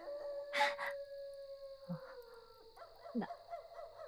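dog howling at night

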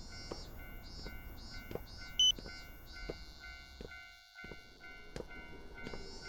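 train approaching the station

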